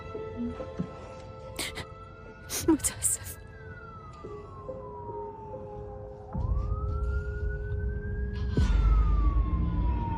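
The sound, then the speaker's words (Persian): A police car siren wails in long, slow rising and falling sweeps over a steady traffic rumble, which swells louder partway through as the siren keeps going. “فقط دارم ماشین پلیس ها رو نگاه میکنم، عقب کشیدم.”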